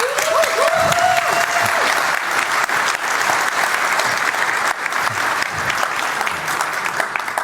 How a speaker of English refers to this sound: Please welcome them with a huge round of applause.